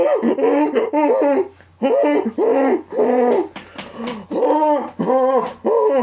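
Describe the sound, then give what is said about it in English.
Someone imitates a seal while singing 'the seals on the bus go', a loud string of rapid, throaty barking honks in uneven bursts, with brief pauses between the runs. “The seals on the bus go...”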